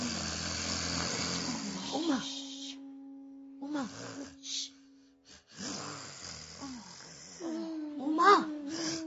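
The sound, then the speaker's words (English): Loud, rough snoring rattles in long breathy bursts, several drawn-out snores with brief pauses between them, harsh, with some faint vocal sounds mixed in. “Snoring so loudly.”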